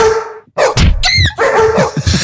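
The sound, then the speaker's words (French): A seagull calls loudly, a quick series of harsh, yelping cries with a rising squeal in the middle, almost like a small dog yelping. No voices. “En fait, c'est une mouette.”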